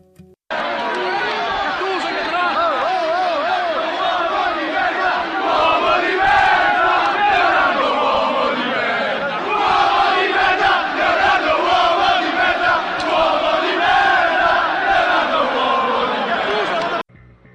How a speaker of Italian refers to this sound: Siamo rientrati con un simpatico coro dei tifosi milanisti e di Gattuso contro Leonardo.